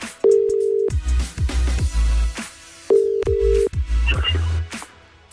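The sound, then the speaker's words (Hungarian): A telephone ringback tone sounds twice as a radio presenter calls a listener's requested phone number, each steady electronic burst lasting under a second, over a low, thumping rhythmic background. No one speaks. “Ha megadod nekem a címzett telefonszámát, akkor én felhívom őt, és akcióba lendülök.”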